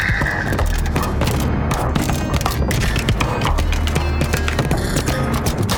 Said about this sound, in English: Yes, you guessed right. That is the sound of a church rooftop river dancing possum. Look at her legs go. Nice one, Blossom.